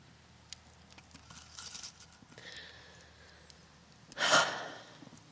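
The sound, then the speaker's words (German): A piece of wood is laid on a fire: faint scattered clicks and soft rustling, then one louder, brief scraping thud as the log settles, with quiet crackle afterward. “Ich leg grad noch ein Stück Holz auf mein Feuer.”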